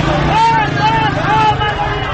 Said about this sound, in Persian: معترضان به نتیجه انتخابات دهمین دوره ریاست جمهوری ایران پس از برگزاری این انتخابات در تهران و شهرهای دیگر ایران به خیابان آمدند. در اصفهان صدای پراکنده شعارهای مردم با صدای موتورهایی که لابلای جمعیت آمدند در هم می‌پیچد.